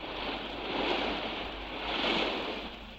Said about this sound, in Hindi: बड़ा बेरहम समंदर है, फूल हो या तिनके, सबको किनारे पे ला फेंकता है।